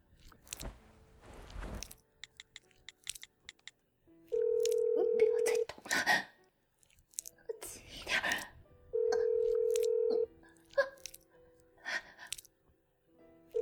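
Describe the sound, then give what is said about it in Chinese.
Electronic telephone tones as a woman makes a call to her daughter: two long, steady, mid-pitched beeps a few seconds apart, with short keypad-like blips and rustling between them, fairly loud, and faint vocal sounds in the background. “我要打电话，我要打电话告诉我女儿了。”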